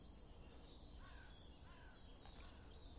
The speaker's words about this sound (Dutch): Net als de kraai die ik hoor, die staat ook voor de spirituele wereld.